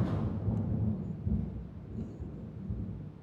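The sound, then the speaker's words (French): A deep, continuous rumble of thunder rolls on for several seconds, heavy in the low end, with a faint buzzy rattle riding on top as a window pane vibrates; lightning is flashing. “Putain, il y a des éclairs, là, je vais me faire électrocuter, là, c'est comment?”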